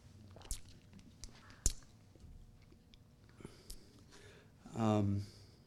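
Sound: sipping water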